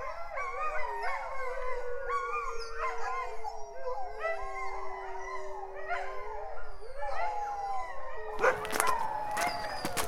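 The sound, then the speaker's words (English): Several dogs at a kennel, by a lake near the Talkeetna Mountains, howl together in overlapping, wavering tones, a loud chorus that rises and falls for about eight seconds before breaking into a burst of harsher barks and yelps. “There was a serene lake to my left, and then the howling began.”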